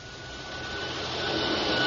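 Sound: vacuum cleaner running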